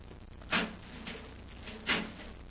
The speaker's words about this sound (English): There's a metal door, Hap. Let's see if we can open it.